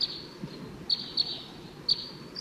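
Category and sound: bird, wild birds calling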